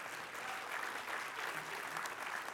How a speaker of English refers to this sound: I should have an applause thing up there just to kind of cue you in when we should do this.